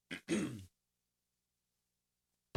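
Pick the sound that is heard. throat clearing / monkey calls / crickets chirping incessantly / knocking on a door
throat clearing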